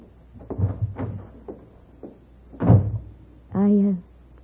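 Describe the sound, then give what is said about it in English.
A door to the kitchen bumps open, followed by a short, drawn-out creak as it swings shut. Muffled voices murmur underneath in the moments before. “Right through that door to the kitchen.”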